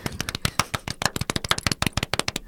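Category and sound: crowd, applause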